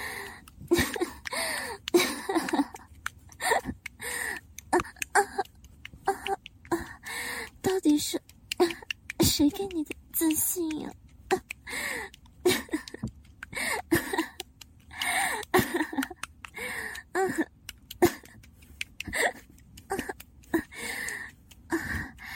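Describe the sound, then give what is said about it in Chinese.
Heavy, rapid panting breaths repeat close to the microphone for the whole stretch, some with a breathy voiced edge like soft whimpers, coming in an uneven rhythm of short bursts. “姐夫，是不是听到我的喘息声，就觉得自己很厉害啊？”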